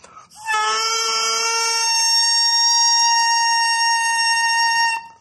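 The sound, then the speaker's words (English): A bare double reed, taken from a bagpipe chanter and blown by mouth, buzzes in one sustained, nasal tone (the 'crow') for about five seconds, wavering briefly at the start before settling into a steady, controlled pitch, loud with no other sounds. “That's the reed vibrating, opening and closing. Now here it is, a little more control.”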